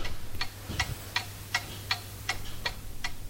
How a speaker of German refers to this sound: Es hängen nämlich dort verschiedene Uhren an der Wand, unter anderem auch eine ganz spezielle.